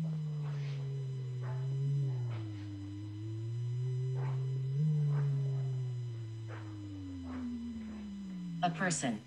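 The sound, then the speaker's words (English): A continuous low electronic tone from a device wavers and gradually sinks in pitch toward a growl-like hum as the user walks toward a door, with faint ticking noises scattered beneath it and a brief clattery burst at the very end. “You're going to hear the pitch get lower, almost to a growl.”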